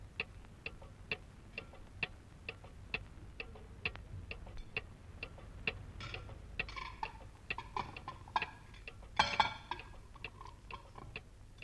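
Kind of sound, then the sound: household object, clock ticking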